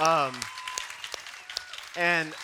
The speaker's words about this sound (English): But this group of people that's standing signed up to set up this place for you and tear it all down for you, and so I think they deserve a round of applause and appreciation.